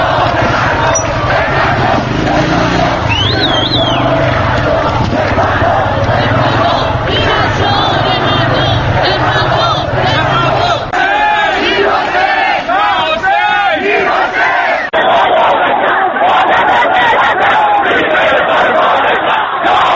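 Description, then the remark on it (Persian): A large crowd of Green Movement protesters on the streets of Tehran or another large city, recorded on a personal mobile phone, chants and shouts in loud, dense waves, with rising and falling voices layered over a constant roar of many people; the sound is rough and unbroken throughout. “صداها و تصاویری از اعتراض‌های اینچنین که موبایل‌های شخصی به صف رساندند.”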